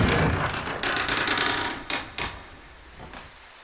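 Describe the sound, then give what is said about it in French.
A dense, steady patter of rain striking a hard surface, with sharper drops ticking through the hiss; it starts fairly loud and thins out toward the end, with no voices. “Pleut. Pleut. Pleut.”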